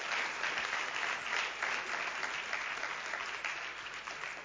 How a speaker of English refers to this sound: still write books, 还在写书, it's more than you can talk, 是超过我们能讲的, so I should receive a clap offering. 我是该得到掌声。